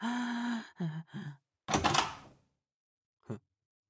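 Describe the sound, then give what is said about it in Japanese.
A door is yanked open abruptly in one loud, rough burst that quickly fades. Brief wordless vocal sounds come just before it, and a short, faint knock follows. “いきなり扉を開けるとは、宿女の風上でも置けないと思って”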